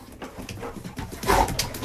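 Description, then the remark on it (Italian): A honey-coloured two-year-old Labrador gives short, eager whimpering noises as an invitation to play, a brief run of soft whines and huffs that grows a little louder toward the end, with no one talking. “Il mio cane faceva lo stesso suono quando voleva giocare.”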